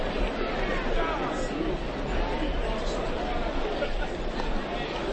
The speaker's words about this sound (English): And the crowd getting a bit restless here at Smokies Stadium.